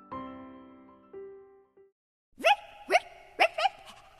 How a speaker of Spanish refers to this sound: Es un perrito que me acabo de encontrar en la calle. Es muy simpático. Nada más me vio y me empezó a mover la cola.